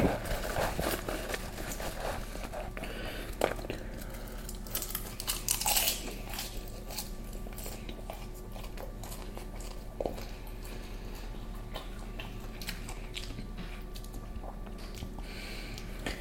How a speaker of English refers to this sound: While I'm eating here